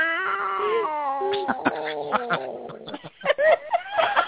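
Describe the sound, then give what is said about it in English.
A person who cannot yell imitates a cat's meow in place of a roar: a drawn-out, hoarse, wavering yowl lasting over a second, followed by broken, raspy vocal sounds and short bursts. “Did you guys hear my meow? Because that was my roar, because I couldn't yell, but did you guys hear my meow?”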